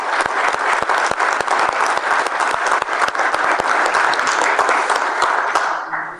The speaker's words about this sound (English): He's not here this evening, but he's listening on the radio. Yeah. If you want to give him a round of applause.